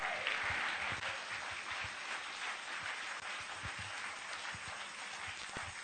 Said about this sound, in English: Clap those hands. Give God the glory.